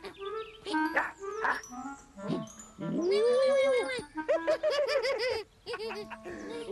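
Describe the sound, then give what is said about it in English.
Cats meow loudly: one long, drawn-out meow followed by a quick run of shorter, rising-and-falling meows, after some brief chattering, snickering sounds. “Meow, meow, meow, meow, meow.”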